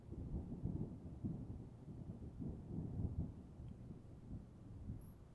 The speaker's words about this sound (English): Is it the thunder? Oh, baby, I'm sorry. I was asleep. Sorry. I can't do much about the weather. I mean, if I could make it go away, I would.